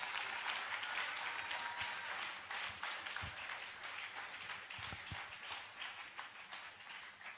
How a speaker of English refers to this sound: Clap for her.